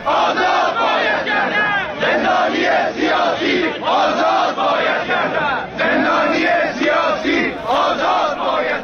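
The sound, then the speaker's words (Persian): A large protest crowd in Hamadan, Iran, chants slogans against tyranny and for the release of political prisoners in unison, loud and sustained, with rhythmic bursts of shouting that rise and fall in repeated phrases across the whole stretch. “اما در همدان شعار تظاهرکنندگان علیه استبداد بود و فریادهای پیاپی برای آزادی زندانیان سیاسی.”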